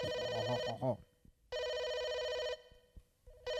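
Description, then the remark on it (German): A telephone rings loudly in repeated electronic bursts, with a one-second ring, a pause, then another ring starting. A brief voice is heard at the very start. “Oh, das Telefon klingelt.”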